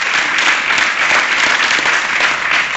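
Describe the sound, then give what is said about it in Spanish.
Sustained audience applause in tribute to Johan Cruyff at a campaign event, a dense, steady wash of many hands clapping, loud and unbroken for a few seconds with no voices over it. “Com per exemple, a Johan Cruyff, per favor, un aplaudiment.”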